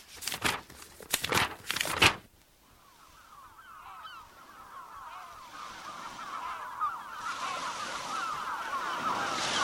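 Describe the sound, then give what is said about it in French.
Several quick, crisp rustles of paper sheets being flipped in the first two seconds, followed by a fading bed of honking birds and open outdoor ambience. “Passons quelques feuillets.”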